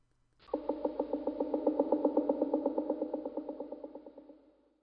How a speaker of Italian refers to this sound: Dopo un po' si sentì il martellare di un picchio.